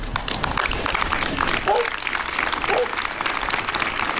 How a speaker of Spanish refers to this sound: Este mediodía ha tenido lugar una concentración de repulsa en la localidad, en la que se ha guardado también un minuto de silencio que finalizaba con este aplauso.